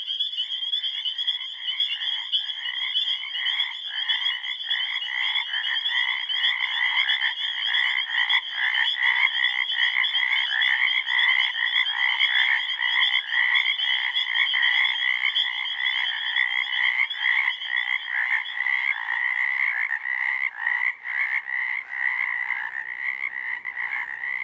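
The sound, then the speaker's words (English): A dense chorus of frogs calling together, using the larynx as a singing reed, a continuous pulsing, trilling wash of croaks that stays loud and steady throughout, with no voices present. “Frogs turned this protective valve into a singing reed.”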